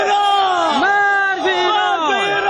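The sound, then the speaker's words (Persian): Dozens of protesters, residents of Kohsan border district in Herat province, Afghanistan, chant slogans against Iran in unison about 20 km from the Iranian border. Loud voices rise and fall in repeated rhythmic phrases with sustained, shouted vowels. They are relatives of 13 Afghans killed by Iranian border guards and are blocking the Herat–Islam Qala highway. “شعارهای که علیه ایران سرداده می شود از سوی باشندگان ولسوالی سرحدی کوهسان ولایت هرات است.”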